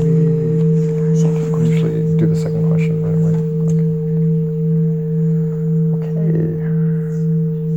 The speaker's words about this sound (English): Okay, so we have, let's say, 3 minutes each. I'll ring the bell for that.